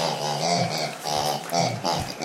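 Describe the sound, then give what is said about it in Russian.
Pigs grunt and squeal in a steady, overlapping burst of nasal, throaty calls lasting a couple of seconds, with no one talking over them. “тащи свиней”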